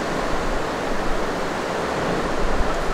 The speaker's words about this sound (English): A nice strong rain.